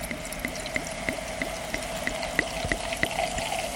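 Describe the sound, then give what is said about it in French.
Champagne pours into a glass tilted as if pouring a beer, a steady liquid rush with a dense fizz of bursting bubbles of carbon dioxide and faint regular clicks, no voices. “Voilà, c'est produit évidemment par les bulles qui éclatent.”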